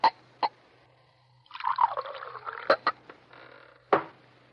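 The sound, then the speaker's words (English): A couple of sharp glassy clinks, then liquid trickles and splashes into a glass for about a second as a bartender pours another drink, followed by more clinks and a thud. Fairly quiet, with no talking. “pour another.”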